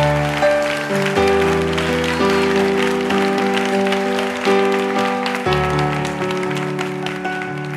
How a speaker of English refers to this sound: Come on, if you believe that, give the Lord the biggest hand clap. The biggest hand clap.